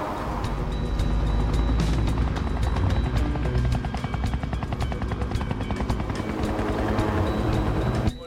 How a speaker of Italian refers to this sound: Piattaforma 14, uno degli elicotteri della Shell.